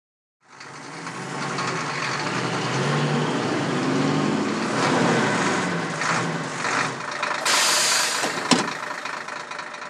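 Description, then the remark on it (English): A bus engine idles with a steady, low rumble and mechanical chatter throughout, broken near the end by a short loud hiss of air, with no voices. A passenger has just got on the bus, which goes to Trafalgar Square. “In this conversation, Sam has just got on the bus.”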